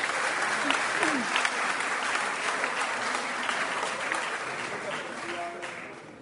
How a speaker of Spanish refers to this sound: Un aplauso, por favor, para Florida.